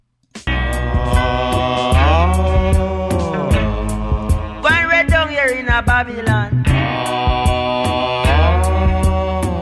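A recorded song plays loudly and continuously, with crisp percussion hits at a steady, evenly spaced rhythm over sustained chords and a deep bass line, with no singing in this stretch.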